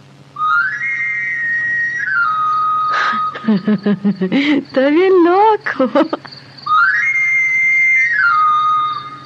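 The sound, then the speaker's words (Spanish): A knife sharpener's whistle played by a knife sharpener (afilador) in the street: a shrill scale that climbs, holds, then slides back down, once at the start and again at the end, with a person speaking briefly in between. “Es el afilador. ¿Pero qué andará haciendo en la calle estas horas?”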